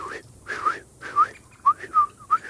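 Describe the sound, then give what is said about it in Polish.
Someone whistles an imitation of a song thrush: a quick series of short, bright whistled notes, some sliding up or down and a few repeated, of moderate loudness with no talking. “Troszkę jeszcze później, w połowie marca, odezwie się drozd śpiewak.”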